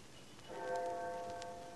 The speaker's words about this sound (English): I had no idea how long I worked until I heard the clock of St. Jude's in the distance.